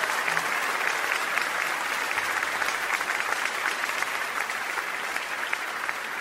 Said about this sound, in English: Good round of applause there